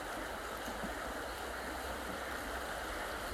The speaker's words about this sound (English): is quite low at this point and there's some rocks underneath, and as the water flows over them it's rippling and bubbling. And as the sun catches these bubbles which are glowing white, it's creating this sparkling effect on the surface of the water.